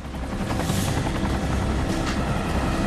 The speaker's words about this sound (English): Ortiz sits in the helicopter, anxiously scanning the river below.